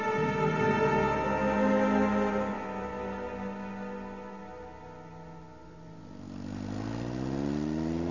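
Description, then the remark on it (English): A speeder engine roars with a steady, buzzing whine that slowly drops in pitch and fades, then a second engine swells in with a rising tone. No one speaks. “The speeder's roar seemed to change. No, it was another one.”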